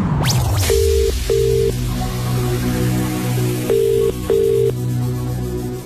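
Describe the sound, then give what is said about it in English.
A telephone ringing tone from a call placed by presenters of the Heart radio station plays two double rings, each a pair of short, steady mid-pitched buzzes separated by a pause, over a low background hum, with no talking. “So, who is it going to be today? Let's make the call.”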